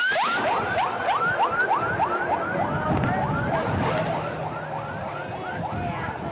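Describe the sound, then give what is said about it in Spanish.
Fast, repeating ambulance siren wails rise in quick sweeps over a dense, noisy street background, steady and fairly loud throughout, with a deeper rumble of traffic underneath, as ambulances enter and leave a prison. “Al menos 28 ambulancias entraron y salieron al centro de reclusión.”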